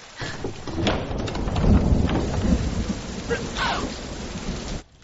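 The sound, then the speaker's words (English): Steady, heavy rain pours down continuously with deep rumbling thunder rolling underneath, filling the scene before cutting off abruptly at the end. “Though I don't think, Mama, you can reasonably take credit for making it rain.”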